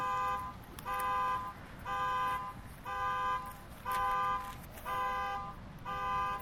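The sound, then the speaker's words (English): A car horn honks outside over and over in a steady, even rhythm, about seven short blasts in a row, moderately loud against a low rumbling background with no one talking. “I think that car is in agreement with this.”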